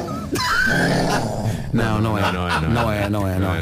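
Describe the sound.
A woman imitates a lion's roar twice in a row with loud, throaty growls, opening her mouth wide. The second roar is longer and rougher than the first.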